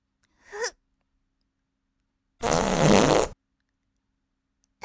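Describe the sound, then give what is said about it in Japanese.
A brief soft puff, then a loud, sputtering fart lasting about a second, with silence before and after. “ほら、くっさいおなら嗅ぎながら、くっさい精子出しちゃいなさい。”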